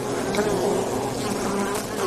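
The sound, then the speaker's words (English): Honeybees buzzing steadily and densely, a continuous drone of many wings with a sustained hum at a fairly even volume throughout. “and I love bees.”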